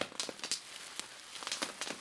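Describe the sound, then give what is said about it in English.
Soft, irregular crackling and hissing of sweet tamales sizzling on a big plate in a kitchen, with quick bright pops scattered over a steady faint fizz and no voices. “I give it to her and it makes a sizzling sound.”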